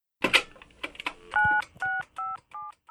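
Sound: telephone number being dialed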